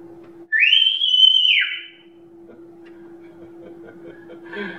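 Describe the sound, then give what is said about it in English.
A single loud shepherd's whistle calling sheep, a long sliding note that rises, holds and drops away over about a second, followed by quiet with a faint steady hum in the background. “Her dad, whenever he would want to call his sheep, he would whistle.”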